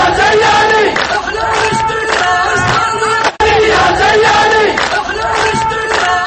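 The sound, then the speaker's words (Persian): Thousands of opponents of Ali Abdullah Saleh's government chant loudly in unison in the streets of Yemeni cities, shouting for him to step down from power. Their voices rise and fall in a steady repeated rhythm, with a brief break in the middle before the chanting resumes just as strongly. “روزهای جمعه و شنبه گذشته خیابان‌های شهرهای مختلف یمن بار دیگر شاهد حضور هزاران نفر از مخالفان حکومت علی عبدالله صالح بود که یک صدا کنارگیری وی از قدرت را فریاد می‌زدند.”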